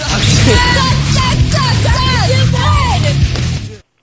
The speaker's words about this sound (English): So the girls tried to cheer her on as she was competing.